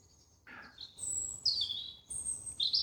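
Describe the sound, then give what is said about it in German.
Birds sing outdoors up above in bright, high whistled phrases, several overlapping calls repeating steadily, clear above a faint background hush with no one talking. “Ich lasse die Versprecher drin, ich lasse die Vögel, die da oben singen, drin.”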